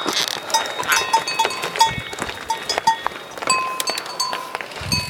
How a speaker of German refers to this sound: Wir passieren jetzt hier die Bullen nämlich. Die gucken uns böse an. Aber sie sind ganz artig. Wir dürfen passieren.